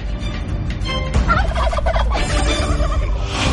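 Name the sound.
turkey gobbling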